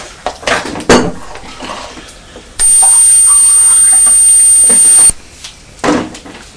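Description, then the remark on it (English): Clinks and knocks of a plastic beaker being handled and set down on the edge of a table, with a steady, loud high-pitched hiss lasting a couple of seconds in the middle as it is filled with blackcurrant juice. “Alright, well, I'll put some black currant in the beaker. I'll just put it on the edge of the table, and if you decide you want it, that's fair enough.”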